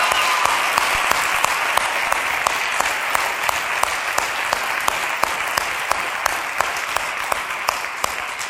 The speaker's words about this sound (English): Then we could clap for that song and praise God.